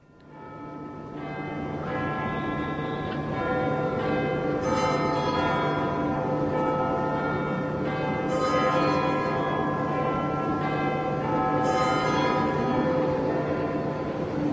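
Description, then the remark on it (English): Big Ben, the large clock tower bell in London, chimes a slow sequence of deep strikes, each tone ringing on and overlapping the next in a rich, sustained resonance, with no voices. “And so, in a sense, this is the sound right here of not only Big Ben chiming, but of all the people of London, in a sense, listening.”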